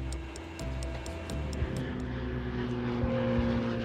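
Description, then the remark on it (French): The propeller engine of a medical evacuation aircraft drones steadily, its low, even hum holding for the whole stretch, with faint regular ticking running above it. No one speaks. “L'exécutif promet une centaine d'évacuations par trains et avions médicalisés.”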